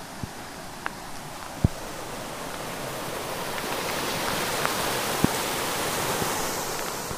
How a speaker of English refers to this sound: Look at how floody this is. This is a dangerous, floody river. It's almost completely going over the road. It usually goes under the road, but it's bridging up over.